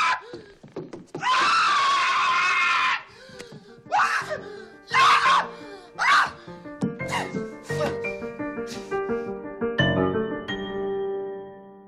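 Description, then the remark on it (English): A man, the film character Marv the Burglar, screams when a tarantula is put on his face: a long, loud, strained scream, followed by several shorter anguished yells and cries in quick succession, intense, fading into a lingering tonal ring at the end. “And Marv the Burglar from the same film when Kevin puts a tarantula on his face.”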